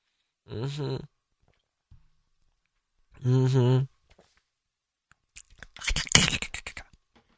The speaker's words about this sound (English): I'm gonna take a sip of water, so talk amongst yourself.